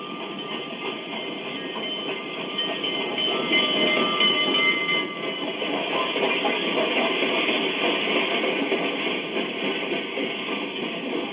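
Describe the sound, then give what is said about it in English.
An express train rumbles into a station, a steady, loud roar of rolling wheels and hissing steam with faint whistle-like tones, continuous for the whole stretch with no voices. “Boy, we got here just in time. Here comes the Fireball Express now.”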